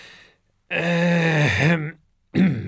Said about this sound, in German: Räuspert sich der Lehrer.